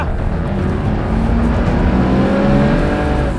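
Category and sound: vehicle, car accelerating hard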